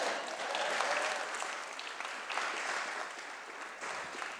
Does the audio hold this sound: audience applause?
yes